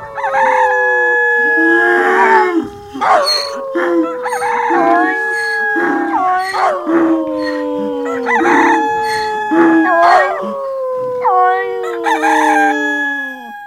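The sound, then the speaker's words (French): Roosters crow again and again in close succession, their long, loud, falling calls overlapping in a continuous chorus with no pause, with no one talking. “Le coq a chanté.”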